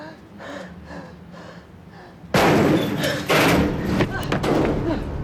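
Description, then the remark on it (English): Quick, rhythmic heavy breathing, about five or six panting breaths from a man catching his breath after running up a ramp to the top level of a building and out into bright sunshine, then a sudden loud burst of harsh noise and thuds cuts in and carries on to the end. “He runs out into bright sunshine and pauses for breath.”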